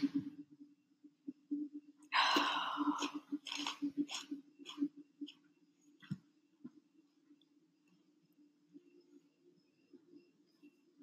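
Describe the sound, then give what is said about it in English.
A loud crunch of someone biting into a Cheeto, followed by several seconds of crackly chewing that fades out over a steady low hum. “Also, me immediately crunches a Cheeto.”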